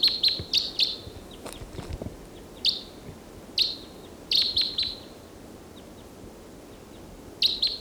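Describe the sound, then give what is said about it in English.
Short, bright bird calls ring out in quick clusters of two to four notes, high-pitched and sharp, separated by pauses over a low, steady background rumble; no one speaks. These are flight calls of a wild bird. “the wild bird that was in song is still around, giving flight calls.”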